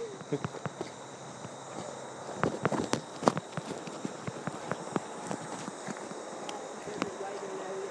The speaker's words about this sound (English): Walking over big rocks.